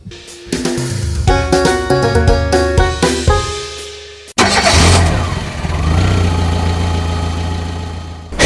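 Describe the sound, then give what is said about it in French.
A Simca Ariane car engine turns over with a pitched whirring, cuts briefly, then catches and runs with a steady, loud rumble. No voices. “L'Ariane, c'était Simca.”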